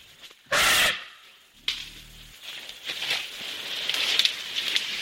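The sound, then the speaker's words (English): Elephants, small ones roughly 8 to 9 feet tall, crunch over a forest floor on the island of Borneo: a loud, rough burst, a brief low rumbling tone, then a steady stream of crackling, snapping steps and rustles with no one speaking. “The sound of elephants crunching over the forest floor on the island of Borneo.”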